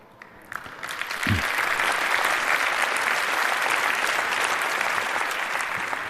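An audience breaks into applause, building quickly within the first second and then holding as a dense, steady wash of clapping hands until the end, with no voices over it.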